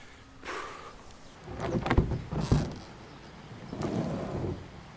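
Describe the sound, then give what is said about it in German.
A boat is dragged over the ground for 20 to 30 metres around a river weir, its hull making rough, grinding scrapes in two or three uneven bursts with brief pauses between pulls. No one speaks. “So, jetzt muss ich das Boot 20, 30 Meter ziehen. Ums Wehr rum.”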